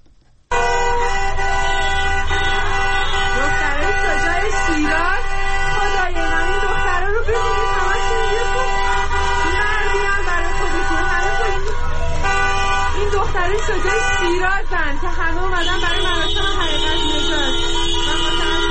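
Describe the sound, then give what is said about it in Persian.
Loud, sustained car horns blare continuously from multiple vehicles honking in protest on streets around Erfan Hall that people have blocked, overlapping into a steady honking chorus with crowd voices mixed beneath. “اما خیابان‌های اطراف از سوی مردم بسته شد و خودروها با بوق‌های ممتد اعتراض می‌کردند و مردم هم در خیابان‌ها راه می‌رفتند و شعار می‌دادند.”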